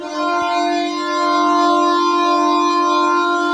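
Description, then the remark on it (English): A loud, sustained Ottawa hockey goal horn blares steadily with a rich, buzzing harmonic tone, holding one low pitch for the whole stretch without a break. “Nice horn.”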